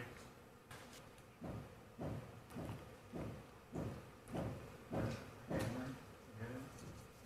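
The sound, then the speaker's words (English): Hammering in the background during a televised news interview: a steady series of about ten dull, thudding strikes at an even, unhurried pace, each blow short and moderately loud over a constant low background hum. “You heard that sound, the hammering in the background.”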